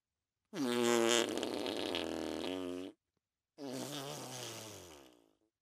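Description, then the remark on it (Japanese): Two loud, drawn-out farting blasts, the first lasting over two seconds and the second slightly shorter after a brief pause, each buzzing and wavering in pitch, close and prominent with no talking. “でもこれでとどめえ、くっせえおならも近距離で食らえもじゃん。”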